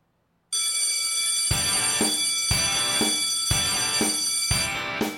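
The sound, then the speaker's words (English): After a brief silence, a bell marking 4:20 in the Pacific time zone starts ringing loudly with a bright, sustained metallic tone, joined by steady, evenly spaced strikes about twice a second. No voices are heard. “A little bit of a pause there before the bell.”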